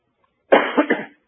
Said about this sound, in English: Listen, I'm so thankful for all of you helping me out. I can hear you coughing and choking. Thank you.